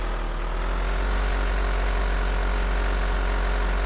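A taxi's engine idles in a steady, low rumble with a constant droning hum and no change in pitch, running alone without any voices.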